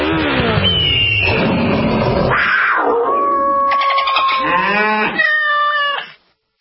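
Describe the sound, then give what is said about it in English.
In a Progressive motorcycle insurance radio ad, a sound effects guy vocally imitates riding a motorcycle on the open road, with loud, buzzing engine revs that rise and fall in pitch, sliding through several gear-shift swoops before cutting off abruptly. “A feeling that would be impossible to recreate on the radio. Until now. Hit it, sound effects guy!”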